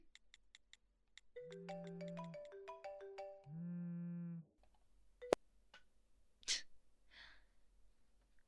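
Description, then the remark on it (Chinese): A few quick taps, then a bright melodic mobile ringtone plays clearly for about three seconds before a sharp click cuts it off, followed by a couple of breathy, hissing sounds; a phone ringing in a classroom during a lesson. “接呀、上课都还要玩手机聊天，还打电话给你，肯定有什么急事儿，你接呗。”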